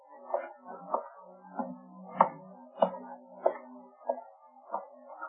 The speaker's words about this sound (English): Steps outside in the alley. Quiet.